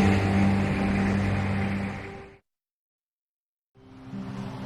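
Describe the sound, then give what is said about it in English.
A truck engine rumbles steadily with a low droning hum as a man drives off in his truck, then fades and drops into silence before a similar engine noise returns briefly at the end. “He drives off and she furrows her brows.”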